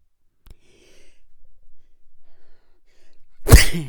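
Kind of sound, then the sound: human body sound, sneeze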